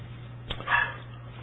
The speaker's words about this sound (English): Can you hear the dog? I mean, I'm just kind of like, why does that dog have to be barking? I think he's outside wanting to come in and nobody's there to let him in, I guess.